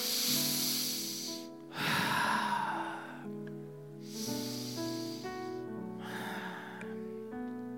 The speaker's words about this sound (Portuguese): E aqui, o salmista está dizendo, na minha angústia, eu respiro fundo, eu respiro fundo.